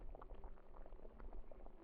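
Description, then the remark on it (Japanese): A pot simmering steadily, with a continuous low rumble and irregular soft bubbling pops rising through it, fairly quiet and with no voices. “アップルパイの匂い、グツグツ似てる音。”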